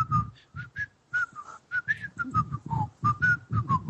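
Someone whistles a bouncy melody up close, a string of short, clear notes rising and falling in a quick rhythm, with breathy low sounds beneath the tune.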